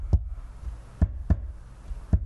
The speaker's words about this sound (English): That was my heart sound on the table.